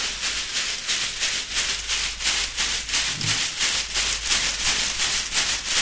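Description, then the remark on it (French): A chakapa leaf-bundle rattle, an instrument from the Amazon named after the plant it comes from, shaken in a steady rhythm, about two shakes per second, giving soft, dry, swishing rustles with no talking over them. “Alors, cet instrument, il est plutôt originaire de l'Amazonie et c'est une plante qui s'appelle une chacapa.”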